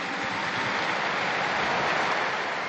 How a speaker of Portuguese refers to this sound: A seguir à oração do Ângelus, Francisco chamou a atenção para a liturgia da manhã por ocasião do primeiro Dia Mundial dos Avós e dos Idosos e pediu logo uma salva de palma para eles. Um aplauso a tutti i nonni, a tutti.